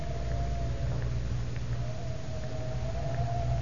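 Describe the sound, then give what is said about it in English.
A steady, moaning wind howls on one sustained, slightly wavering tone over a thick low rumble of rushing air, constant and fairly loud throughout with no voices, on a cold, windy afternoon on the lawn at the Tower of London. “It is 4 o'clock of a windy afternoon, shortly before closing time.”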